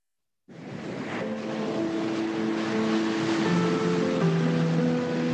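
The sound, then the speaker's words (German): Ocean surf of the Indian Ocean washes in on Sri Lanka in a steady, full rush after a brief silence, swelling slightly over a few seconds, with faint sustained tones humming underneath. “Sri Lanka, umgeben vom Meer.”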